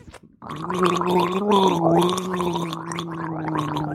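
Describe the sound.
A voice gargles in a continuous, bubbly warble, imitating someone trying to talk underwater, with a steady pitched hum rippling throughout for about three and a half seconds.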